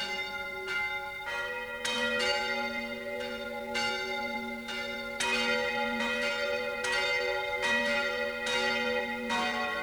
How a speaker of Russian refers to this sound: Вскоре колокола Наина стали громко звонить.